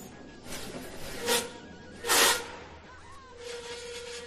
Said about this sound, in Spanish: Este es más o menos el ambiente que puede tener cualquier clase normal y corriente. Añade ahora a este ruido de fondo el estridente chirrido que producen las patas de las sillas cuando se arrastran.